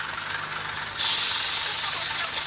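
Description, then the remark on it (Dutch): A city bus, coming from the northern part of the city, from Esmara about 10 km away, lets out a loud, steady air-brake hiss over a low idling engine rumble, the hiss swelling stronger partway through and holding to the end. No one speaks. “Deze bus komt uit het noordelijke gedeelte van de stad.”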